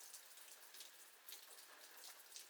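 steady rain falling

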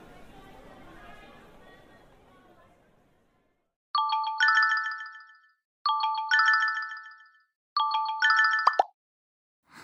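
mobile phone ringtone

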